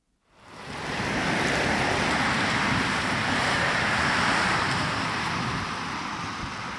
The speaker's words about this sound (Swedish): Där susar ett X2000-tåg förbi den riksstationen i Hör.